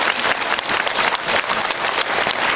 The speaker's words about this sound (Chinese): 鼓掌！